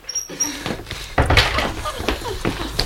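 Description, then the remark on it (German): A stuck, unlocked door is shoved and jostled: scraping and rattling, then a heavy thunk as it gives, followed by more knocking and creaking. “Die Tür steht offen. Sie klemmt nur.”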